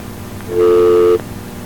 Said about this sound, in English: That's about a dial tone, it sounds like.